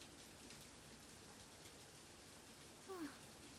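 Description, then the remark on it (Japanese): Steady rain pours down on a mountain while people shelter in a mountain hut, a dense, even hiss spread across the whole clip, with a brief tonal voice-like sound rising near the end. “雨が止むまでここで待ちぼうけか。”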